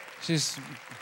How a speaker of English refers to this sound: Why don't you raise your hand, Mom? Y'all give my mom a hand clap.